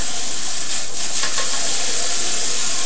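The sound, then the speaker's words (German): A copper dye pot boiling with iron on the heat since the morning, giving off a steady hiss and seething bubble noise that carries on unbroken with no voices. “Ein Kupfertopf, der mit dem Eisen kocht seit dem Morgen.”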